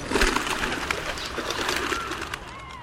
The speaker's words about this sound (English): Something startles the flock of rock pigeons, and again they burst into flight.